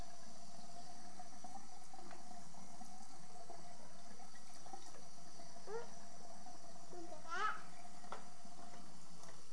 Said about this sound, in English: But look what happens to the water. The water, did you notice the sink filled up?